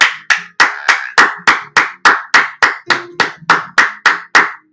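Steady, rhythmic hand clapping: about fifteen loud, sharp claps at an even pace of roughly three per second, with no voices.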